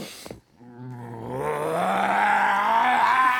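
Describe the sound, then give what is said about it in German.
A voice imitates a sabre-toothed tiger's roar: a brief rough burst, a short pause, then a deep, throaty growl that rises in pitch and swells louder, sustained for about three seconds. “Der uvuläre Zäpfcheneinsatz eines Säbelzahntigers.”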